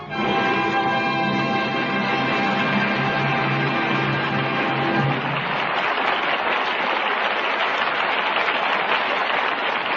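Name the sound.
studio audience applause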